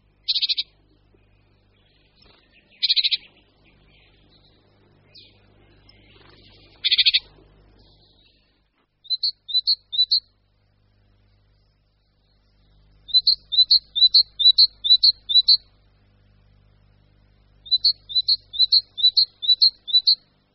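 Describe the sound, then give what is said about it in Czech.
A tit sings an unusual song variant: short, high, thin notes repeated in quick phrases of three to six, separated by pauses, clear against a faint low background rumble. “Já se přiznám, že mě občas na jaře některá sýkorka napálí, protože za rok vždycky méně časté variace zapomenu.”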